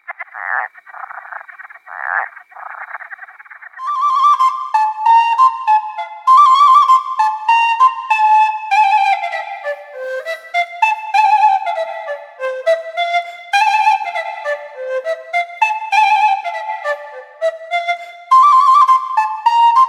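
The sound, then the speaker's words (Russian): A skylark trills in a long, unbroken stream of quick, high warbling and chirping notes. The song starts after a few seconds of low, buzzy croaking and stays loud to the end. “Слышишь, жаворонка трель?”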